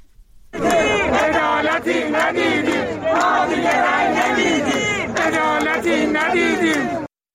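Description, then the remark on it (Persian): A large crowd of retirees and social security pensioners protesting unmet demands in Iran chants loudly in unison, voices rising and falling in rhythmic shouted phrases that run steadily for several seconds without pause. “این برای چندمین هفته در ماه‌های اخیر است که بازنشستگان در شهرهای مختلف ایران تجمع می‌کنند.”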